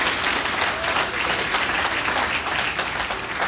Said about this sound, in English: Come on, clap a little bit more if you're going to clap. Come on, everybody.